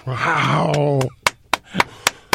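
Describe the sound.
A drawn-out vocal exclamation gives way to slow, steady hand claps, about six or seven sharp smacks spaced evenly apart, the first couple overlapping the voice.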